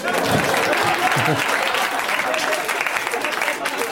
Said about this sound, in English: Clap.